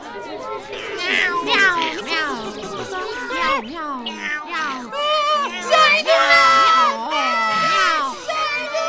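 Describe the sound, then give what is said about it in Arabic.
Several high-pitched voices of young chicks scream and shout in fright at once as a cat approaches them, loud, their overlapping cries rising and falling continuously for several seconds. “لهذا شعر بخوف كبير وعرف أن القطة تريد أن تؤذيهما، فصرخا.”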